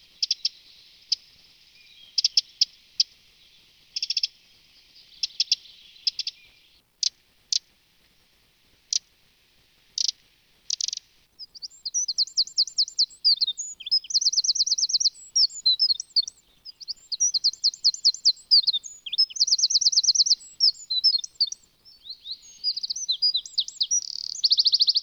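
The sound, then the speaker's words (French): A white-throated dipper sings alone, starting with scattered sharp buzzy calls, then breaking into a long, rapid, continuous warble of high trills and twitters, clear. “Voilà pour le chant du simple plongeur.”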